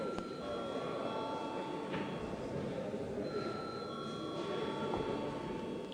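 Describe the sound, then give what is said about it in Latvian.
A parliament chamber bell rings continuously for several seconds in the Saeima before a vote, a steady, high metallic tone over a constant murmur of the room and background voices. “Lūdzu zvanu.”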